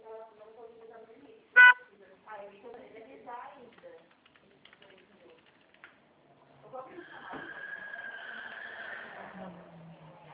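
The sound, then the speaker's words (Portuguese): A car roars past with a sharp horn blast early on and a long, loud whining, screeching pass toward the end, while a person talks in the first half. “Não, passou um carro doido aqui.”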